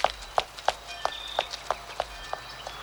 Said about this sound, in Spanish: Se aleja corriendo.